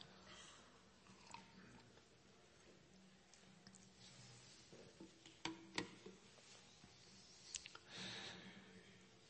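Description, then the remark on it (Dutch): Quiet drinking noises: a few soft clicks and a small clink, then faint gulps and a breathy exhale as a speaker giving a Bible talk sips water, with no talking. “Doe ik even een slokje water.”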